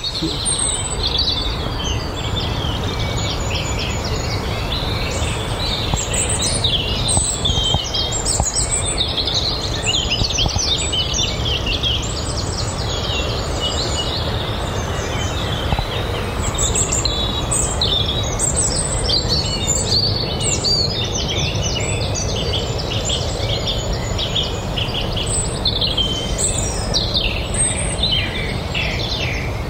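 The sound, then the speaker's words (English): A dense dawn chorus of many birds singing and chirping at once at Mallow Castle and Town Park, continuous and overlapping for the whole stretch, with a steady low rumble of background noise beneath. “Just listen to the amazing bird song in the dawn chorus from Mallow Castle and Town Park.”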